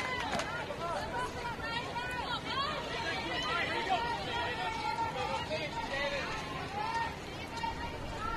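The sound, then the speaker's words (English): A ballpark crowd cheers and calls out in support early in a baseball game, during an at-bat with the count at 2-2. A dense, steady wash of many voices carries scattered higher shouts rising above it and holds an even loudness throughout. “Here's some good crowd support early on.”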